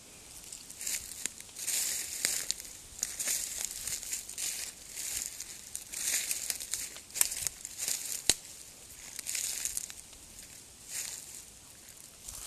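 Dry leaves crackle and rustle in an irregular rhythm as slow, mindful footsteps crunch through them, fairly quiet, with sharp crinkling bursts over a steady hiss.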